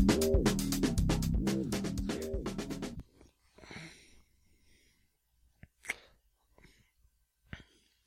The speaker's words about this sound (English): You do a lot of heavy breathing. I am obese, yes. I need to get control of that.